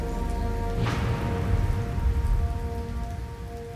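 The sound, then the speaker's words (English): Heavy rain pours down steadily and densely, with a deep, low rumble of distant thunder rolling underneath; a brief splashy burst stands out near the start, and no one speaks. “In the distance, thunder rolled. The skies opened up and rain began to pour.”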